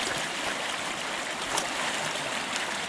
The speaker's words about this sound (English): Need to clean this creek out.